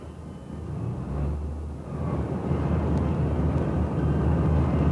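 A steady, low airplane engine drone in flight, a continuous rumbling hum that swells slightly louder over a few seconds, on a special flight from Rome's Ciampino Airport to New York, several hours out. No voices are present.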